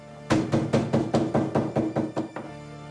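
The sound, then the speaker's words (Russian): Loud, heavy banging on a door in the entryway of a farmstead: about ten forceful thuds in a quick, steady rhythm, each a deep booming knock. The last blow is weaker, and no voices can be heard. “Кто-то сильно колотил в дверь, басовито ругаясь.”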